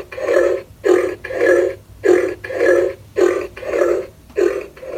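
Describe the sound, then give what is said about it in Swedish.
A pig grunting sound effect: about nine rough, low snorting grunts in a steady quick rhythm with short gaps between them, loud and with no talking. “Kan vi inte spela upp grisljudet så vi blir glada igen? Lägg lite grisljud här.”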